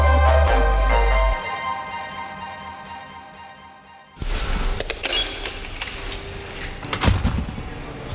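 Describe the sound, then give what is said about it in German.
A sustained tonal hum fades out, then a heavy door and electronic lock kick in abruptly with mechanical whirring, clicks and a loud clunk, with no one speaking, at the high-security Airbus plant in Manching, Upper Bavaria. “Schwere Türen, elektronische Schlösser.”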